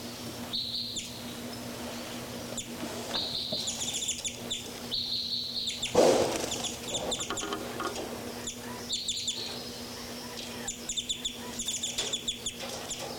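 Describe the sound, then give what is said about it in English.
Two birds, numbered 3,3 and 5,9, fly around, chirping and calling repeatedly: bright high tweets in bursts over a steady low hum, with a louder clucking call around the middle and quick chirp runs near the end. “Both birds 5, 9 more active here.”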